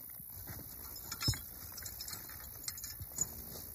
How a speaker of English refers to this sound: hitching up the horses to the mowing machine, no slides.